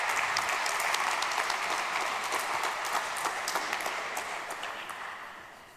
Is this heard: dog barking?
no